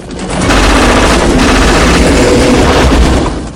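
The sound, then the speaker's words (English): Loud, sustained automatic gunfire from hunters firing out of the main hatch of a helicopter at a rider along a tree-covered riverbank, rapid bursts blending with a low rotor rumble and the sharp whines of bullets ricocheting around the rider, with no talking. “Hunters open fire from the main hatch in the chopper. Bullets ricochet around Chance.”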